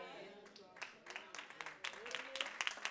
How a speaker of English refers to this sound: I got about 3 hand claps.